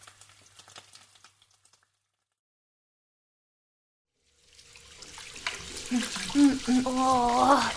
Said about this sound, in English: I usually have my shower before you! I know, but you always have a very long shower.